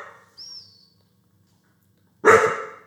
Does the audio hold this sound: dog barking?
yes